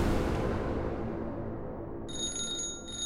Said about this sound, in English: July 20th, 1973. The phone rang in Bruce Lee's Hong Kong home.